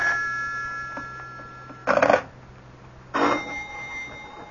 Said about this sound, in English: Do something about that confounded phone. I can't, Mama. It'll just keep ringing. Well, take the receiver off the hook or something.